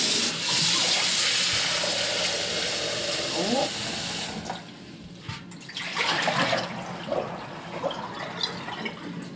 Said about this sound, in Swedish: Nu så har ju skålen stått här i skåpet så att jag sköljer ur den lite.